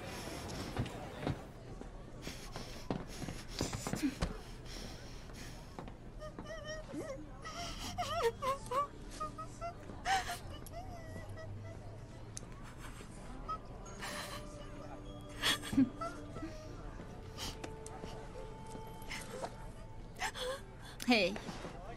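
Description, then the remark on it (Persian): Someone cries and whimpers in uneven bursts, with gasping breaths and drawn-out moans, mixed with other voices and background clatter. “گریه نکن، اونجا خیلی بد نیست.”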